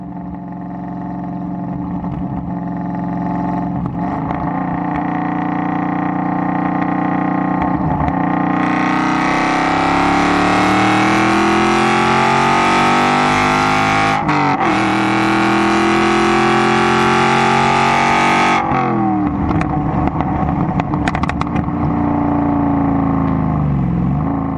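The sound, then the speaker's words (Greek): A 2.6-litre V8 car engine, derived from the Stradale, revs loudly, its pitch climbing and falling through several surges, with a sharp burst of higher revving in the middle before settling back to a throaty idle. “Ο κινητήρας. 2,6 V8 προέρχεται από τη Strandall, ένα άλλο θρυλικό, ίσως αν όχι το πιο όμορφο αυτοκίνητο όλων των εποχών, ένα από τα πιο όμορφα αυτοκίνητα όλων των εποχών.”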